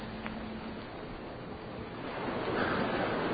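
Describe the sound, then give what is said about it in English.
A steady wash of Atlantic Ocean water surrounds a canoe in the dark, a dense hissing surge that swells louder toward the end, with no voices, just open sea churning. “Today, as we join Howard Tripod, we see that he is still stranded on a canoe, escaping from Whitney Island and going out into the Atlantic Ocean.”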